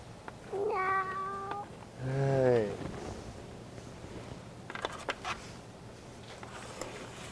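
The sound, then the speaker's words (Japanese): A cat meows twice in quick succession, the second call longer and bending in pitch, followed by a few soft taps or clicks against a quiet room background. “そう、猫ちゃんね。”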